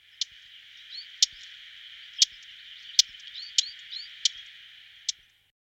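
A blackcap's contact call: about seven sharp, hard ticks like stones knocked together, spaced irregularly about a second apart, clear against a steady background hiss with a few faint chirps.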